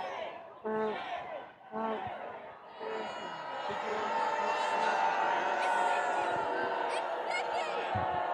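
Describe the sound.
A crowd of protesters in front of the Trump Hotel shouting "shame" at about six Trump supporters, starting with a few separate yells and swelling into a loud, sustained chorus of angry voices.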